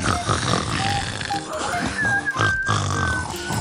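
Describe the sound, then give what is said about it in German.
A voice imitates snoring with rough, gurgling, grunt-like rasps that carry on steadily for several seconds, broken by a few brief whistly squeaks, at fairly loud level and with no words. “Jetzt schnarchen wir im Kopf”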